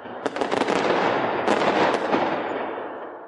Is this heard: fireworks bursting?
yes